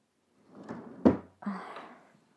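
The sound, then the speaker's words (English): A bedroom drawer scrapes as it slides open, bumps to a stop with a short wooden thunk, then slides again with a rough rasp, moderately loud, with no talking. “what are you gonna get from my bedroom drawer?”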